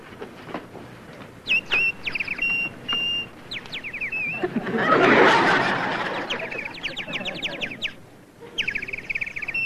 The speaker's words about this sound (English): A Canadian crested warbler in George Wilson's backyard.